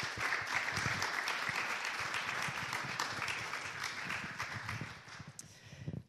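An audience at a church service applauds steadily for about six seconds, a dense, even wash of many hands clapping at a constant loudness, with a few sharper individual claps standing out near the end.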